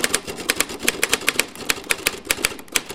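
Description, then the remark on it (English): Brisk typing on a Royal Standard manual typewriter, a steady run of sharp key strikes about every quarter second with mechanical clatter between them and no voices. “A Royal Standard manual.”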